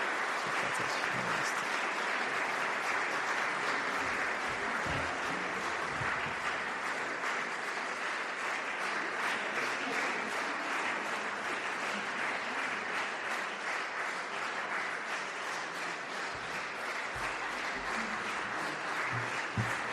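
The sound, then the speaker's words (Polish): Sustained audience applause for a 105-year-old mixed choir celebrating its jubilee fills the whole stretch, a dense, steady wash of many hands clapping at an even loudness with no voices standing out. “Jeszcze raz, moi drodzy, oklaski.”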